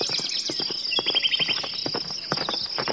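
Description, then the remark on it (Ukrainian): The hooves of an arriving rider's horse clatter along a path in quick, uneven beats, steady, with a high chirping of insects running underneath throughout. “Ми побігли в бік в'їзду, і вже за хвилину на стежці затупотіли кінські копита.”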